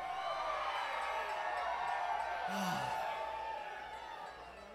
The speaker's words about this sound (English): Oh, it feels so good to have y'all screaming at us.